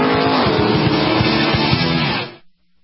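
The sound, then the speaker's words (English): Loud, high-revving sports race car engines at the Sebring sports car race roar continuously for a couple of seconds, with shifting pitch as they speed by, then cut off abruptly into silence. “Sebring, the biggest sports car race of them all, March 18th through the 21st.”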